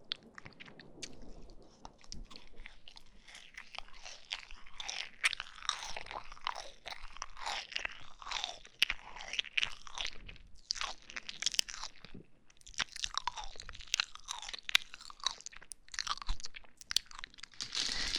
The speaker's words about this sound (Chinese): 慢慢吃啊，你看啊，同样一个棉花糖，我要嚼好多口， 你都叫了一两口就没有了，不要这么吃啊！